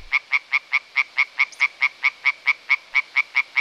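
A tree frog at a pond croaks in a fast, steady series of about seventeen sharp, evenly spaced calls, loud, with no other sounds around it.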